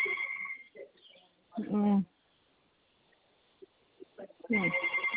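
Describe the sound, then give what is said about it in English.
A telephone rings in two electronic bursts, one at the start and another near the end, sounding thin and band-limited, with a short muffled voice-like sound and quiet pauses in between. “Just hold on, yeah, I'll go down to the phone.”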